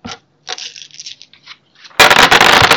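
Dice clatter and tumble in a dice box, starting with a few sharp scattered clicks and bouncing taps, then swelling into a dense, loud rattle of rolling dice.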